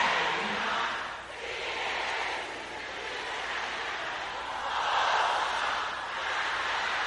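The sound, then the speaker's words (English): A dense wall of many women's voices shouting a prayer together at once, loud and sustained for several seconds, with swelling surges in intensity and no single voice standing out. “Sisters, now say it loud and clear.”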